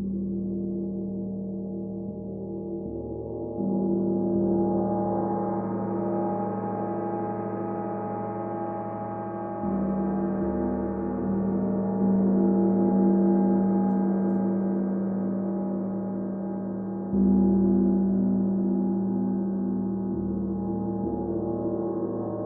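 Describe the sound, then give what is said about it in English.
A wind gong played continuously during a guided sound meditation, a deep, swelling wash of layered humming overtones that builds after a soft start and is struck again midway, sustaining loudly throughout with no voices. “I'll begin with a wind gong. Imagine this wind gong sweeping away any debris from limiting thoughts.”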